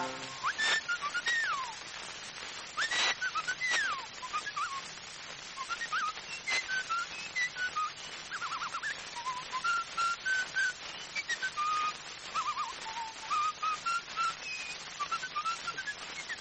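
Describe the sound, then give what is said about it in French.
Someone whistles an imitation of a blackbird's song: a run of fluting, warbling phrases with swooping slides and short trills, clear, with no talking. “Le merle siffle aussi.”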